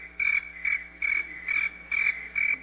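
Crickets chirping in a steady, even rhythm: six shrill pulses about half a second apart, moderately quiet, with no voices or other sounds around them.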